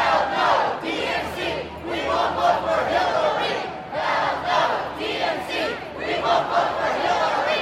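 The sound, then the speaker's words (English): A large crowd of pro-Bernie Sanders protesters chants in unison outdoors in the streets of Philadelphia in 95-degree heat, loud rhythmic shouted phrases repeating with brief dips between them, many voices blending over a low steady rumble. “John, those pro-Bernie protesters were out on the streets yesterday, 95 degrees or more, a big crowd of Bernie supporters gathered in the middle of the city.”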